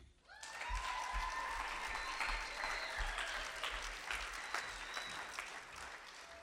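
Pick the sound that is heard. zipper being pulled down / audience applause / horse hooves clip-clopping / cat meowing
audience applause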